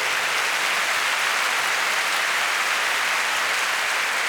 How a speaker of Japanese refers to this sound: スロバキア国立放送交響楽団の皆さんです。大きな拍手をお願いします。